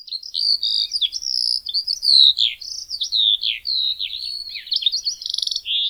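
eurasian skylark song

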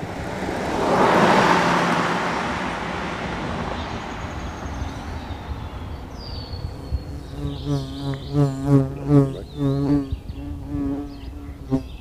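bee buzzing up close

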